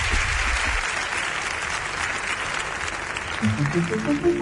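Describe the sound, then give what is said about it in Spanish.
Audience applause fills the whole stretch as a dense, steady wash of clapping, with a voice starting to speak over it near the end. “Entonces, las gracias, os pido un aplauso, gracias, que sigamos viéndonos y que desea lo mejor.”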